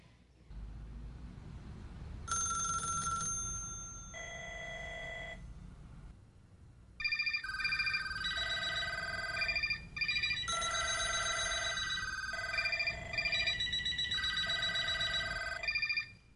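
A telephone rings loudly in repeated bursts of a bright, multi-tone electronic ring, each burst lasting about a second with short pauses between, over a low steady rumble.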